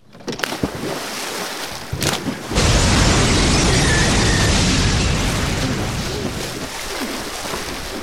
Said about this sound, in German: Steine, Erde und Zweige wurden ins Wasser gesprengt.